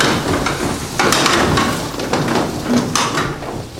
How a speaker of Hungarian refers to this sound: Jó, akkor következő a széket összetoljátok.